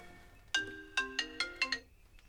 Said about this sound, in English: And there's Rick's phone. I believe that's for you, Rick. I'd say it is. If I can get to it.